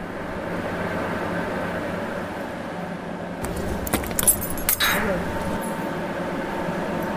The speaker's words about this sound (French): On est à l'intérieur du bâtiment de la turbine, on entend le bruit du générateur, la conduite forcée qui arrive sous nos pieds, toute l'eau va rentrer dans une, ce qu'on appelle une bâche spirale